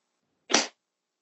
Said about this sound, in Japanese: 聞こえましたか？ そう、鞭の音。鞭。あなたは、この鞭で打たれるたびに、魂が浄化され、薄汚い陰魔の呪縛から逃れることができます。